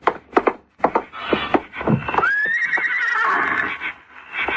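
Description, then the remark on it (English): A Mexican saddle pony whinnies in a long, wavering neigh that rises then trails off, preceded by several sharp hoof clops and thumps. “He's a real Mexican saddle pony.”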